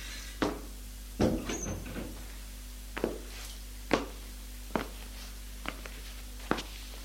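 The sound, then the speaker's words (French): A glass door at the end of a small corridor, hidden behind a thick burgundy curtain, rattles open with a cluster of clunks, then people walk in with footsteps at a steady, roughly one-second pace, over a low steady hum in otherwise quiet surroundings. “Petit couloir qui donne sur une autre porte vitrée, cachée par un gros rideau bordeaux. Paul va ouvrir cette porte.”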